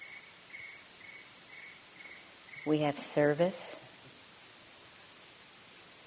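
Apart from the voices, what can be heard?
crickets chirping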